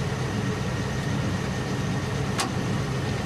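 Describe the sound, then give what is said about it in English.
A truck's engine idles steadily by a house porch, its cab windows misted up, a continuous low rumble with an even hiss and no change in pace, broken once by a brief sharp tap. “The engine is running and the cab windows are misted up.”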